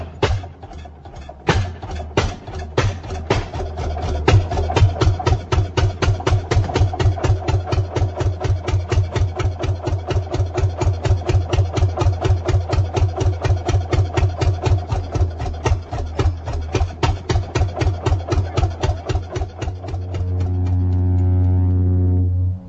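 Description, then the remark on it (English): A one-cylinder Fairbanks Morse engine chugs in a fast, steady rhythm of loud thumps as it drives a belt-driven wood saw cutting wood to furnace or fireplace lengths, settling near the end into a sustained low humming drone. “He'd arrive with his horse-drawn wagon, which sported a wood cradle and a belt-driven saw powered by a one-cylinder Fairbanks Morse engine.”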